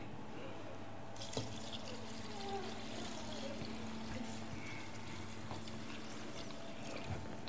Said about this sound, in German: Also ich tue ein bisschen Wasser rein.